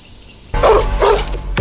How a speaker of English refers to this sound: Gosh, there's a big combo there, barking dogs, being left behind in a campsite.